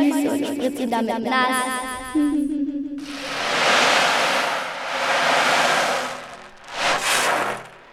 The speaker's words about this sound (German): Da machen wir mal eine Riesenwelle und spielen sie direkt vor die Füße und spritzen damit nass.